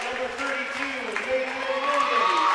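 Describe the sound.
Basketball fans applaud and cheer in a steady, dense wash of noise, with voices calling out above it and the crowd swelling slightly louder toward the end.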